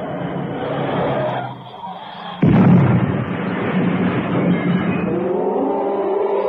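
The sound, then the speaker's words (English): A car engine rumbles on a stretch where the road narrows, then a sudden loud crash slams in about midway as the car swerves into a lichen-covered rock face, followed by a sustained noisy roar with a rising mechanical whine trailing on after the impact. “for Cannon's car had swerved into the rock face”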